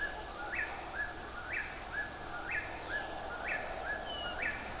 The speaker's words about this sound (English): it's the first one that started calling since I've been waiting for the sun to go down. And it says purple rib, or you can consider it saying its name too, whippoorwill, whippoorwill.